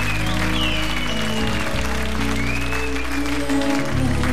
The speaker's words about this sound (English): To the powers of music. Let's give music a nice round of applause because of music we are gathered here tonight.